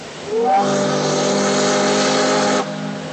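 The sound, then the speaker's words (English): A sternwheeler riverboat's steam whistle on the Mississippi River sounds one long, loud, steady blast after a brief rising start, then cuts off abruptly, leaving a low rumble behind; no one speaks. “From sternwheelers like this one to today's ocean-going vessels, commerce on the river made New Orleans one of the country's busiest ports.”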